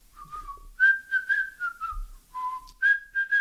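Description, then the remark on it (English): Someone whistles a short melodic tune in a series of sliding, connected phrases, fairly soft as if from some distance, with no talking. “So you're all, you know, chilling around and you hear a whistling sound coming from a distance.”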